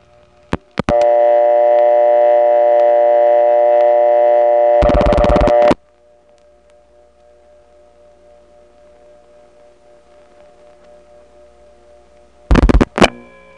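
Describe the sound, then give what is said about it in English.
A telephone trunk line from the Melrose step-by-step telephone office clicks open into a loud, steady metallic hum rich in overtones, cut off by a harsh burst of noise, then a faint lingering line hum and another brief noisy burst near the end. “Such a metallic organic sound on this trunk.”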